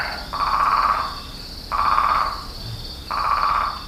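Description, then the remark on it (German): In the evening at Tamnougalt in southeastern Morocco, frogs croak in three long, buzzing bursts at a steady rhythm, with a constant high insect-like hum running underneath. No one speaks. “Wenn ich eine Pause vom Korrespondentenjob brauche, wenn ich nicht kommunizieren, nicht neugierig und nicht aufnahmebereit sein will, dann fahre ich hierhin, da wo abends die Frösche quaken.”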